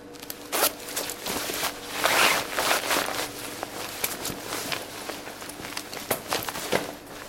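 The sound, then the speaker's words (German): A fighter pilot dresses before a flight: clothing rustles and a zipper is pulled shut on his anti-G trousers, which have compressed-air pads, a run of quick, crisp ratcheting scrapes and soft fabric shuffles over several seconds, with no one talking. “Mit Reissverschluss montiert er die Anti-G-Hose.”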